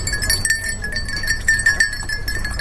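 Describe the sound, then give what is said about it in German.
A whole herd of goats passes at a crossroads in Kenya, their small bells ringing continuously over a busy shuffle of hooves, with a low outdoor rumble underneath and no voices. “Nach den Diplomatenfrauen kommen die Ziegen, eine ganze Herde.”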